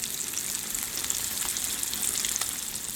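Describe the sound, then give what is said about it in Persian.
Steady, crackling sizzle of a plant-based burger patty, made with genetically engineered soy leghemoglobin and yeast, frying in a hot pan, dense hiss with scattered pops, even throughout with no voices. “برگری که با این روش ساخته شده موقع سرخ کردن مثل گوشت واقعی جلز و ولز میکنه.”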